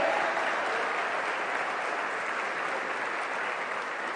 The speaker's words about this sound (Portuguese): Você pode aplaudir Jesus, irmão?